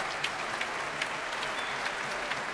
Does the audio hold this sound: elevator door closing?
no